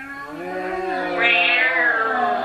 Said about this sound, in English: Wait. What yonder purring sounds do I hear? Who lurks in the darkness?